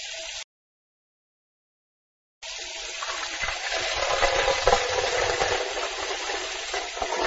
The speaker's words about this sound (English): First, turn on the tap. Okay. Put some water into a pan. Okay.